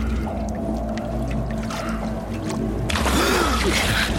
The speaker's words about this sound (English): Bran gently places the body into the water, and we wait.